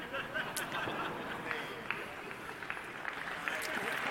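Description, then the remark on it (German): An audience breaks into steady applause, a dense wash of overlapping claps with crowd murmur mixed in, holding at an even, fairly loud level throughout without stopping. “Ihr klatscht ja schon vorher.”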